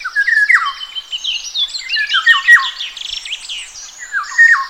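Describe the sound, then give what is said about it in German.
A Eurasian golden oriole call playing as a phone ringtone: a steady stream of high, looping whistles mixed with harsh squawky notes, filling nearly five seconds with no talking. “Ja, ihr habt gerade vielleicht schon meinen Handy-Klingelton gehört und das ist der Pirol.”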